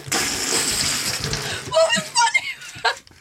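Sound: water splashing and spilling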